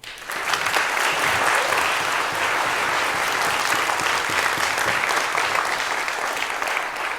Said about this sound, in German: Deswegen bitte begrüßt mit einem ganz, ganz großen Applaus